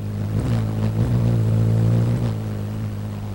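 A hummingbird's wings hum in flight, a steady, low, buzzing drone with stacked harmonic tones that waver slightly in pitch, made by air pressure between the top and bottom of the wings alternating 40 times a second as it flaps, punctuated by a few soft rustling flutters, with no voices.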